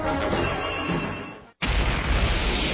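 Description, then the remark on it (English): A loud, thunderous crash effect: a sustained roaring rumble breaks off for an instant, then a second heavy crash slams in with deep low-end boom. Dominant, with no voices. “Tune in every evening to hear the thunderous crash as I pull the linchpin from the foundations of the House of the New World Order as it crashes down.”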